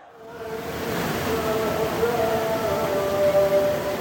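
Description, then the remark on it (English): A huge crowd of mourners in Mashhad, Iran, chants together in scorching summer heat as the coffins of the former supreme leader and his family come into view: a dense, continuous roar of many voices with sustained tonal pitches running through it. It swells in at the start and then holds steady and loud. “As the coffins carrying the former supreme leader and his family come into view, the crowd erupts. Their chants drown out almost every other sound.”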